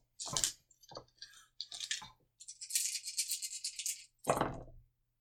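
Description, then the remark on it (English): Black dice rattle and clatter in a series of short bursts, a sustained shaking rattle in the middle, then a final sharp tumble, fairly loud with no talking. “Well, try it again with a black dice now.”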